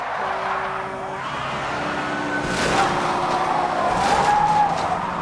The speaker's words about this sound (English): The truck's wheels lock up.